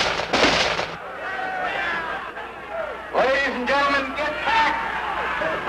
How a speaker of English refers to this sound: he headed into the crowd in his shirt sleeves to shake some hands. Then came the gunshots.